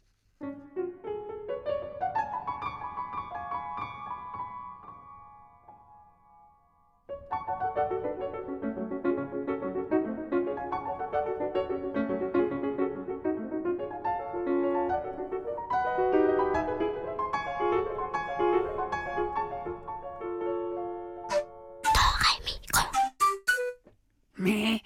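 A lively piano piece with rippling runs of notes that rise and fall in waves, pausing briefly early on, then ending in a few short, noisy bursts.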